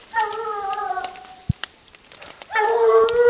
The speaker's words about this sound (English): hunt in the afternoon, we suddenly hear the sound of hunting dogs on the mountain. This is the most action we've gotten all day, and we hurry to the main trail. Did you hear him? The lead dog is right where we were.